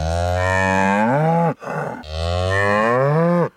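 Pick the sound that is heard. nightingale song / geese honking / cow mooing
cow mooing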